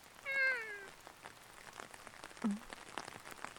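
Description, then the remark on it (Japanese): A cat lets out one clear, drawn-out meow that falls in pitch, followed by a short low chirp, with steady rain pattering in the background and no one talking. “あ、猫。 お前も誰か待ってんの？それとも雨宿り？”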